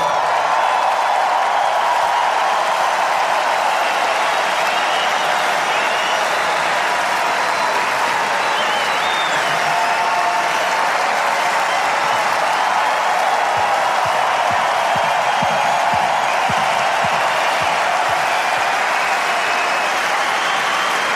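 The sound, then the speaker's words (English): A large tennis crowd applauds steadily and loudly as Yannick waves to them after becoming the first Italian world number one, a dense wash of clapping with scattered cheers and shouts rising through it, sustained for the full length without a break. “He's waving to the crowd now.”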